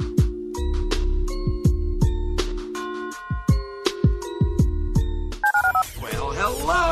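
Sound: telephone touch-tone dialing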